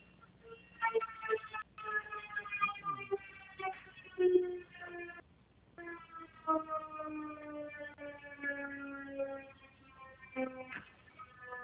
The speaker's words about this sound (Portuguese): Espera um pouquinho, tá tocando uma sirene aqui, espera lá.